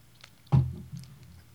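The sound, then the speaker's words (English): A single short, wet slurp of hot coffee in the morning, followed by a softer swallow and faint mouth sounds fading into quiet. “I apologize if you hear me slurping this morning. The coffee is almost good.”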